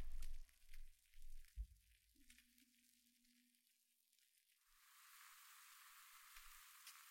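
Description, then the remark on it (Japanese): A few soft low thumps and a faint fading hum give way to a steady, bright fizzing and bubbling hiss, like carbonation, which continues evenly at a moderate level to the end. “ほら、シュワシュワと何か音が聞こえませんか？”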